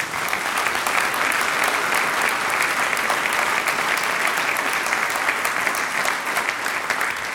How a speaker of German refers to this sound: Du hast das großartig gemacht. Du kriegst jetzt auch schon einen Applaus.